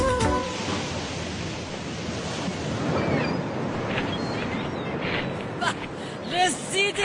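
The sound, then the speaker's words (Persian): Steady roar of sea waves washing onto a beach on the northern sea coast of Iran, a broad continuous rush with swelling surges, while a few voices chatter in the background near the end. “اینم از ساحل دریای شمال.”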